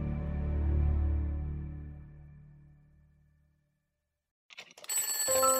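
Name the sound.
alarm clock ringing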